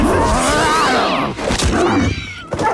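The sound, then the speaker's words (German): A loud animal hiss and snarl, with harsh, wavering roaring tones and bursts of rushing, whirling noise, continuing for a few seconds without any speech. “Ehe der Wolf Cedric erreichen konnte, hörte dieser ein Fauchen und ein Wirbeln.”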